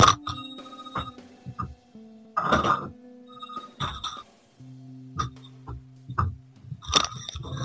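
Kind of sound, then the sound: signal or alarm, phone ringing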